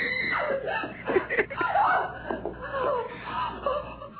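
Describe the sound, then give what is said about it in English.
A woman screams and wails for about four seconds, her strained voice rising and wavering with brief catches, fairly loud, with a thin, tinny quality. “Oh, y'all got the lady screaming and shit, man.”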